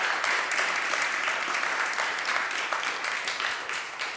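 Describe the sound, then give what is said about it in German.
Steady audience applause in Baden for pianist Ilse von Alpenheim at the start of the Piano Legends series, a dense wash of many hands clapping at an even loudness for a few seconds, with no voices rising above it. “Und ich bitte um einen Applaus für Frau von Alpenheim.”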